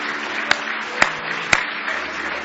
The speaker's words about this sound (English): Give the Lord one more hand clap of praise if you love him.